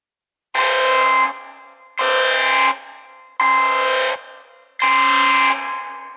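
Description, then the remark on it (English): A fire alarm sounds during a routine test of a building's alarm system, in four loud, harsh horn blasts, each under a second long, evenly spaced with brief echoing gaps between them and no voices. “Following this announcement, the fire alarm will sound.”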